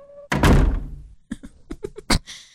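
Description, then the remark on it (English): A door shuts with a loud thunk that rings out briefly, followed by a quick series of lighter taps or knocks. No voices. “He opened the door to close it again?”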